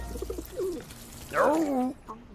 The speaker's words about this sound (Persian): یه لونه اینجاست. فکر کنم دوستت کبوترتان اینجا زندگی میکنه. چه جای عجیب غریبی هم خونه ساخته.